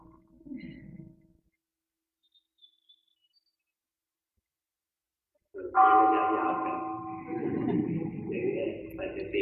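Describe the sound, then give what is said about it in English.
After several seconds of near silence, a meditation gong is struck once and rings out loudly, its rich, wavering tone sustaining steadily until the end. “Let's listen to the gong.”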